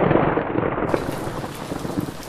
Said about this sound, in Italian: Poi d'improvviso lo scroscio di un violento temporale ci riportò alla realtà.